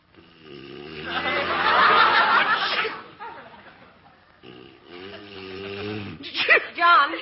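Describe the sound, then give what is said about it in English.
A loud, drawn-out sneeze bursts out after a short voiced wind-up, followed by a few seconds of quieter murmuring vocal sounds and breathy snorts. “Gesundheit.”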